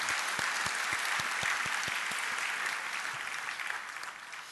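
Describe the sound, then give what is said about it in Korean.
A church audience applauds steadily to give glory to God after the completion of a mission trip to Cambodia, dense clapping from many hands filling the whole clip, with a few sharper, regular claps standing out early before the applause gradually thins toward the end. “동참해 주신 또 순종해 주신 모든 성도님들께 진심으로 축복하고 또 감사를 드리면서 이 모든 영광을 우리 박수로 하나님께만 영광을 드립니다.”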